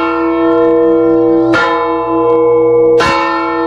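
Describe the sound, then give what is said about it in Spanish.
Church bells tolling a slow death knell, two heavy strikes about a second and a half apart, each leaving a long, loud ringing hum that hangs between strokes. No voices. “Alguien ha fallecido y las campanas doblan a muerto.”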